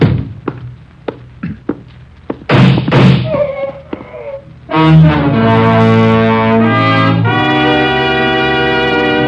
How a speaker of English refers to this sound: Shots came from Slater's room.